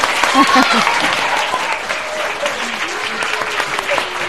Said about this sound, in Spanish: Pues sí, de todo ello podemos hablar desde el Colegio Público Reina Sofía, en el que me encuentro esta mañana con un público muy especial. Chicos, ¿podéis aplaudir para que os escuchen?